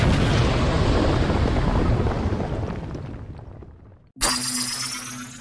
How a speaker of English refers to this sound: Where's the kaboom? Two. There was supposed to be an earth-shattering kaboom.